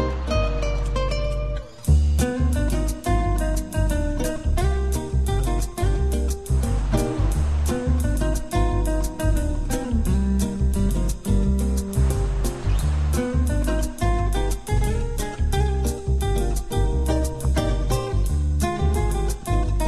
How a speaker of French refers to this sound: Voilà une petite musique avec le bruit des vagues crétoises hein, pour finir.